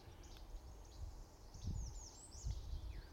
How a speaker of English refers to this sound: There's a veery calling in here. This bird going, peer, peer.